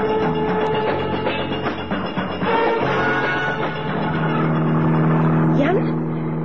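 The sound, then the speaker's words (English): A car engine roars steadily during a police chase, droning loudly throughout, then revs higher toward the end with a rising whine as it accelerates hard. “There's a police car behind us. They're trying to overtake.”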